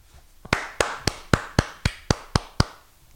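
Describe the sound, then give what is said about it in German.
A one-handed clap repeated nine times in a quick, steady rhythm: sharp, dry slaps, each fading fast, with no voices. “Ich habe gerade mit einer Hand geklatscht.”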